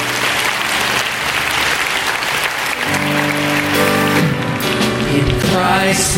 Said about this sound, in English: Would you thank Him with a clap offering? Go ahead.